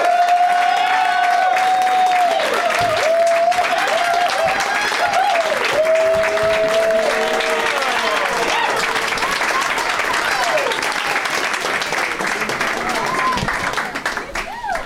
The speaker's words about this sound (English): The crowds here really give a nice warm welcome to all the guests. Is that a real standing ovation? That was like a sarcastic stand.